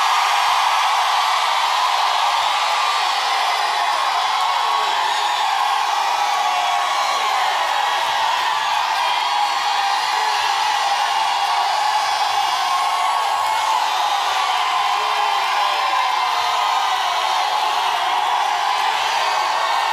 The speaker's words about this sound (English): Somebody scream up in here.